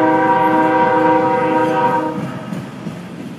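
A loud train horn sounds one long steady blast for about two seconds, then cuts off, leaving the heavy rumble of rolling cars passing by.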